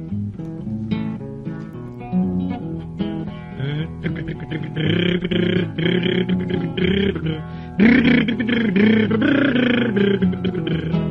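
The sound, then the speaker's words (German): A voice imitates a car engine with a rumbling, throaty drone that swells and pulses, then bursts into a louder, brighter honking sound partway through, mimicking a horn, in a children's song about riding in a car. “So zum Beispiel sein witziges Lied übers Autofahren, in dem er das Motorbrummen und auch das Hupen lautmalerisch mit dem Munde malte.”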